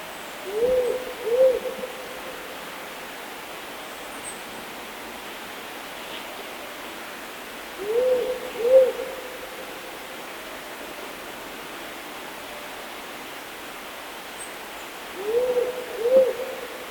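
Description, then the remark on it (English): A powerful owl hoots in deep, paired calls, a double hoot repeated three times at steady intervals of about seven seconds over a constant hiss of background noise. “The powerful owl that you just heard there is the largest owl species in Australia.”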